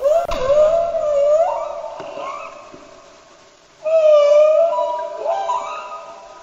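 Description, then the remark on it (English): Humpback whale song: long, wavering tonal moans rich in overtones, rising and falling in pitch, with a quieter stretch before a second strong call swells up. No voices. “This is the call or the song of the humpback whale.”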